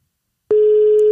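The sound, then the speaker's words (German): After a half-second of silence, a loud, steady telephone ringing tone sounds on an outgoing call placed from an office: a single unbroken mid-pitched beep holding through to the end, with no voices. “Klingelt schon mal.”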